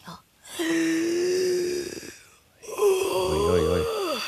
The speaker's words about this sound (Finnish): Mennäänpäs istumaan, niin minä kuuntelen sinun keuhkoa. Ai. Jos hengität pari kertaa oikein syvään.